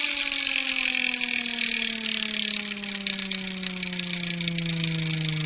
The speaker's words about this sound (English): So the way that I did that is that I came across a vintage Dick Tracy gun from the 50s, I guess, that was sort of like, but if you did it really fast, it gave this sort of siren sound.